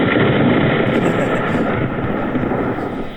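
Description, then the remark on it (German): A 'Rain Cloud' sound effect played in a computer program: a loud, steady roar of rain with a deep rolling thunder rumble underneath, sustained for about three seconds and easing slightly at the end, with no one speaking. “Rain Cloud. Das hat man auch gehört hier.”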